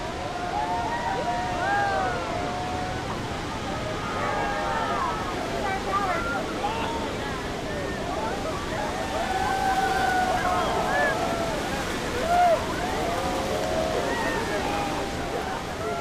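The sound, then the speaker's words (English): A steady, thunderous roar of cascading water at the base of Horseshoe Falls, heard from a tour boat held there so tourists can feel the spray, with a crowd's excited chatter and occasional shouts mixed into the constant rushing spray. “especially when his boat's at the base of Horseshoe Falls.”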